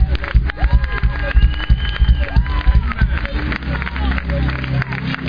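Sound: audience clapping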